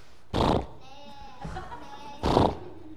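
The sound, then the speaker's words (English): A person imitating a horse voices a wavering whinny, a quavering nasal cry framed by two short, loud breathy bursts at the start and end. “So, like, if I were going to imitate, like, a horse. Can you guys imitate a horse?”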